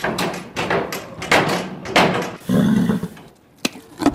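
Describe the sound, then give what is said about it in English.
An agitated horse kicks a wooden stable door for food, sending out a quick run of heavy, booming thuds, then pauses before a couple more sharp knocks ring out. “As an agitated horse kicks a stable door for food before crunching a carrot,”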